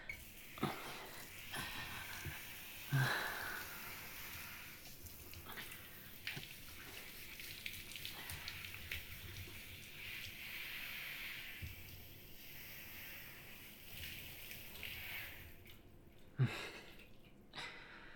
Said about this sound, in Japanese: じゃあシャワーで泡を流して